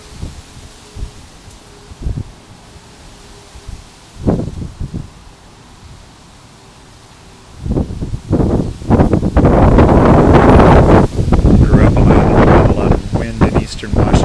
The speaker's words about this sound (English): We had some sun, we had a lot of rain this morning, and now this great windstorm is coming up. It's just really thrashing things around here, so I thought you might want to listen for a sec.